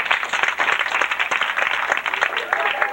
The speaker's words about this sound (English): And just for my own edification here, just by applause, how many people here are over 30? Just clap if you're over 30.